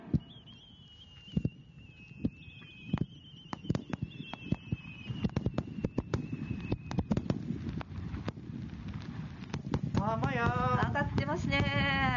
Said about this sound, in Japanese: 上がってますね。 上がりました。 上がりました。 上がりました。いや ね。 ね、花火ですか。今日花火大会あったんですね。 そうなんですね。